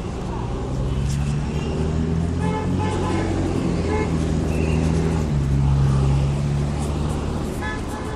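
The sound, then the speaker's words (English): Dense traffic rumbles at a busy intersection with traffic cops present, engines droning and several car horns honking in short bursts throughout, some overlapping, while faint voices murmur, as a pedestrian prepares to cross the side street. “Okay, I'm pretty much at the intersection now, and I'm going to first attempt to cross the side street, which is...”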